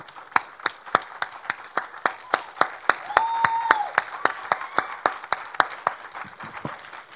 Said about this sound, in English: Praise the Lord. Amen. Let's clap for Jesus now.